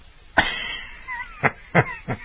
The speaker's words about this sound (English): Did you hear the duck? I did hear the duck, yes.